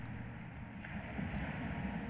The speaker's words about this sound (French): Entendez-vous le roulis des vagues déferlant sur la plage, vos pieds blottis dans le sable, puis repartant au large, emmenant avec elles tout ce qui vous préoccupe aujourd'hui?